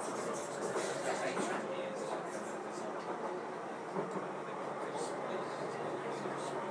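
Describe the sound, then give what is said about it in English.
Steady, continuous rumble and airy rushing noise inside a moving DLR light rail train bound for Beckton, with Star Lane as the next stop, holding an even level throughout with only slight swells and faint rattles. “Okay, I'm now on the DLR. Train is for Beckton.”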